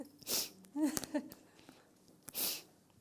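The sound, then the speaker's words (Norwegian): Two short, breathy sniffles about two seconds apart, with a brief nasal, voiced snort between them. The sounds are fairly quiet and there is no speech. “Det snufser.”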